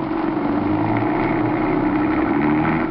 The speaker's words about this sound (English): Start this car. Keep on going, and don't look back.